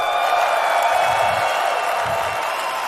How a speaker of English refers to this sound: Please stop clapping, please stop.